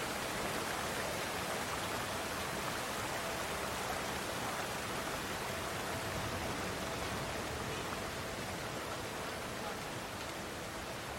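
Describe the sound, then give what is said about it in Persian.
A steady, dense roar of rushing water from a waterfall fills the whole clip, constant and fairly loud, with no voices or breaks. “آبشار. هانیوا و کوفان روی تخت سنگ نشستن.”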